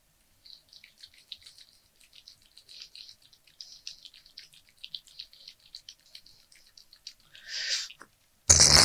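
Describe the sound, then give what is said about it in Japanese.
Lotion squeezed from a bottle and added, with a run of small wet, sticky squelches and drips, then a short sputtering squirt and a sudden loud rustle at the end. “ローション足すね。”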